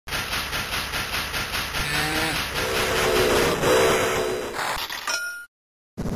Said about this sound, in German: Also der Dampf, der da aus dieser Lok rausstößt und diese kleine Pfeife, die man da hört, das ist schon, boah, das sieht schon toll aus.